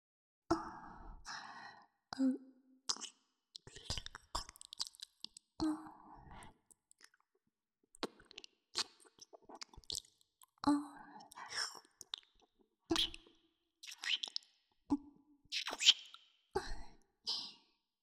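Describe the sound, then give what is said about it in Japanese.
Wet mouth sounds of mixed breath and saliva, soft smacks, clicks and moist lip noises, with breathy exhales tickling the ear, arriving in irregular bursts with brief quiet gaps, intimate and low in volume. “して耳をくすぐってみたりとか、どうですか？吐息と唾液が混ざり合ってとても気持ちいいでしょ。”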